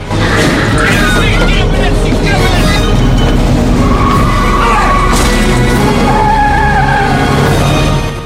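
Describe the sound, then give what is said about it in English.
An ambulance speeds off from outside a hospital with loud, wavering tire squeals over a heavy engine roar, continuous for several seconds, with muffled voices faintly underneath. “The hitman watches the ambulance speed off.”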